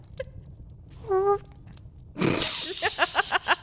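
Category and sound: vocal imitation, voice imitating a fart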